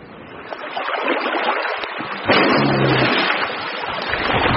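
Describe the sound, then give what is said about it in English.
Spring meltwater floods across breaking Arctic Ocean sea ice, accelerating the breakup, in a steady, loud rushing wash that surges slightly halfway through, with a low rumble underneath and no voices. “These vast floods accelerate the breakup.”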